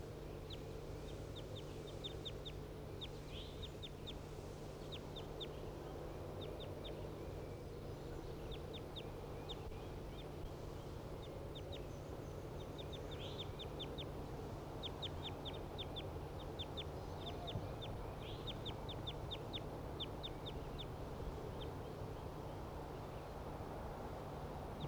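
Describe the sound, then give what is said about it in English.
A wild bird calls repeatedly from right above the cages in short, bright bursts of chirps over a steady low hum, fairly faint, with no one speaking. “The wild bird right above the cages.”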